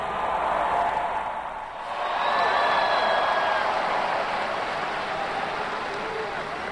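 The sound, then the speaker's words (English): A vast crowd of about 38,000 people roars steadily, a dense, continuous wash of cheering with scattered whistles and shouts rising above it, swelling slightly partway through and holding loud until the end. “Listen to that crowd, 38,000 people”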